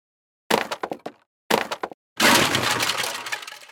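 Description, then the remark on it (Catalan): Two quick bursts of hard blows, several sharp knocks each, are followed by a long, loud splintering crash as Joanet knocks down the 13 doors with his stick at the bottom of a cave shaft. No one speaks. “En Joanet va fer caure les 13 portes amb el seu bastó.”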